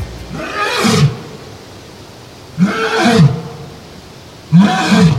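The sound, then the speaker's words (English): A lion named Benny roars three times at roughly even intervals, each deep, throaty roar lasting about a second, loud, with quiet pauses between and no voices. “He does that to warn other male lions not to challenge him.”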